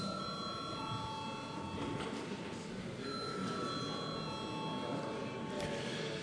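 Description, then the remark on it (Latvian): A parliament voting bell rings continuously before a vote on sending a bill to a committee, a steady, shrill metallic buzz held for the whole stretch, with a low murmur of voices underneath. “Viens deputāts runājas par viens pretlikuma projektu nodošanu komisijai lūdzu zvanu.”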